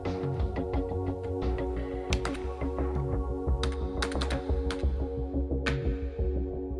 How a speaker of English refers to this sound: She would spend hours losing herself in her computer, headphones plugged into her ears playing the latest drone call tracks, tapping and clicking away on the keyboard as if she were born to do it.